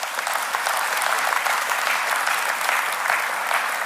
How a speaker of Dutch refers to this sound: Kan ik een applaus krijgen voor Jezus?